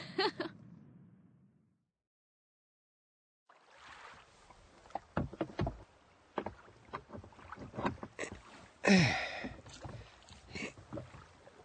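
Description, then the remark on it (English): Oars dip and splash in water as a rowing boat moves along, with irregular wooden knocks and creaks, following a brief quiet pause. “Come on, let's go and have a row in a rowing boat.”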